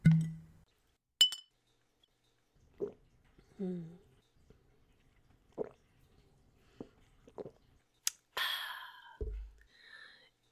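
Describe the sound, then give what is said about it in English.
Glasses clink together in a toast, two bright, sharp chimes spaced several seconds apart, with soft liquid sloshing and small handling sounds in between and no talking. “Give me that bottle and finish the drink you're holding while I get started.”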